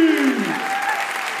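An audience claps steadily as a person comes up onto the stage: a dense wash of applause that holds at an even, fairly loud level throughout, with a faint tonal hum beneath it at the start.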